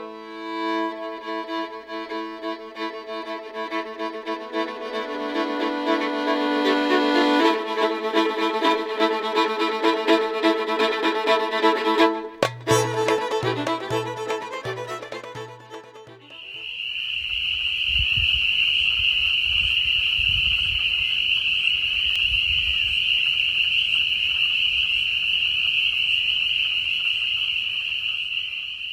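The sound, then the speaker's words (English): A loud chorus of male spring peepers giving mating calls forms a dense, shrill, continuous wall of high peeping, with male wood frogs clucking low and intermittently in the background, at a seasonal pond in Blacksburg, Virginia, in the evening of February 23rd. A droning, tonal stretch precedes the chorus. “If you guessed wood frogs, the background clucking, and spring peepers, the loud chorus, you're right.”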